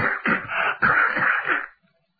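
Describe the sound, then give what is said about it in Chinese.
A voice mimics a monk in a yellow robe coughing after being smoked: two harsh, raspy bursts in quick succession, fairly loud, before falling silent. “这家的眼睛熏得跟烂桃差不多少了，这么老半天还咳嗽呢，咔咔。”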